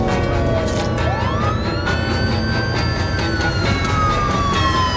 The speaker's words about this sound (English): An ambulance passes and the man's vanished.